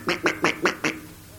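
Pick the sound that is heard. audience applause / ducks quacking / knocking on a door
ducks quacking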